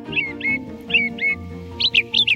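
song thrush singing

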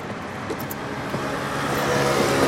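car engine

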